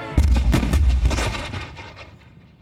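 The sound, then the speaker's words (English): A rapid volley of heavy cannon blasts from the British warship HMS Leopard firing on the USS Chesapeake on June 22, 1807, several deep booming shots overlapping in quick succession, loud, then rolling away into a fading rumble. “On the afternoon of June 22, 1807, the British warship, the HMS Leopard, unloaded cannon fire on the USS Chesapeake.”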